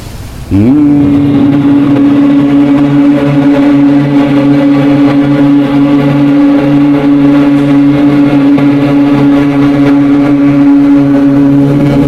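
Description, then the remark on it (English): A group of voices hums together during a breathing exercise in a steady, sustained low tone, starting abruptly after a brief pause and holding one unbroken pitch with rich harmonics for about eleven seconds. “So humming is interesting.”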